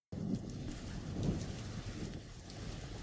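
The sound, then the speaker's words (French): Steady, dense rain hisses without a break for a few seconds, with a deep low rumble underneath, even in loudness, and no voices. “Ah merde, il pleut.”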